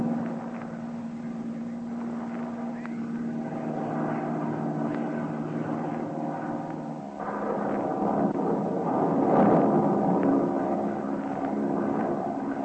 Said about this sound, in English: This plane is too underpowered to climb above it. We'll try to go right through. Hope the wings stay on.